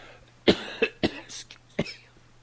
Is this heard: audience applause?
no